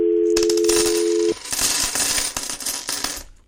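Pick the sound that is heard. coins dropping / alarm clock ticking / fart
coins dropping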